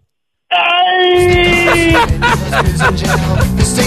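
A radio listener's loud, energetic scream on a morning radio show bursts in and holds one steady, high pitch for about a second and a half before a thumping, rhythmic backing sound swells up and takes over.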